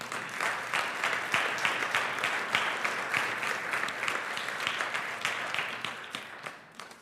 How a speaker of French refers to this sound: Vous pouvez applaudir le Seigneur.